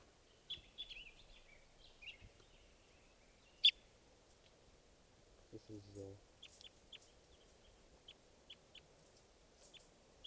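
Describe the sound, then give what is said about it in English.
Faint, high-pitched bird chirps come in short scattered bursts over a soft hiss, with one sharper call partway through and a brief lower, tonal hoot-like sound in the middle, recorded at 12:30 while testing bird 518. “Going now at 12:30, testing some of the birds here.”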